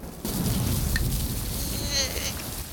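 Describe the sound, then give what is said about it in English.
Heavy rain pours steadily while a low thunder rumble rolls underneath, opening with a sudden sharp crack as lightning strikes a creature raising an acorn above its head atop a severed tree trunk; a faint high sizzling whine rises briefly near the end. “He raises the acorn above his head as lightning strikes.”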